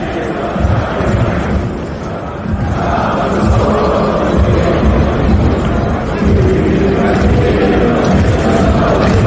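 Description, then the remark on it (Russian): A large stadium crowd of Russian and Serbian football fans sings "Katyusha" together at a Russia-Serbia match, a loud, sustained mass chant with a steady dense roar of many voices and rising swells of melody throughout. “Значит, российские и сербские болельщики вместе поют «Катюшу» на матче Россия-Сербия.”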